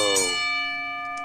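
A single sharp clang of a boxing ring bell played from a soundboard, struck once and left ringing with a bright, sustained metallic tone that fades slowly. No voices.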